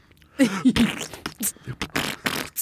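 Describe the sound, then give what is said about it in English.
A string of loud fart noises: short buzzy, sputtering blasts repeating irregularly over a couple of seconds, with brief gaps between them. “Please rap over my fart noise.”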